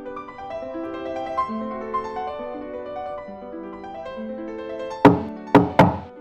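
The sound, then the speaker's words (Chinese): Three sharp knocks on a door ring out near the end, fairly loud, following several seconds of soft melodic background music; the knocking is the children's father arriving with a man carrying Christmas toys and gifts. “这时候传来一阵敲门声，孩子们争先恐后，个个簇拥着，面露微笑的向门口奔去。”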